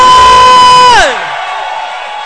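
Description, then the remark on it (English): During a church sermon, a loud, sustained high-pitched cry swoops sharply downward, then gives way to an audience screaming and cheering as a steady, noisy roar that continues to the end. “Somebody scream!”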